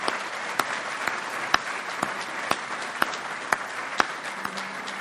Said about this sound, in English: Will you please please join me in thanking D.C. Washington with one more round of applause. That was magnificent.